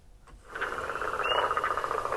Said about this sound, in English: The leopard frog. But there's peepers in the background if you listen. The higher peeping noise. Uh-huh. That's great. Yeah, it's very hard to get just one frog call because they're so often a cacophony of sound in the wetlands.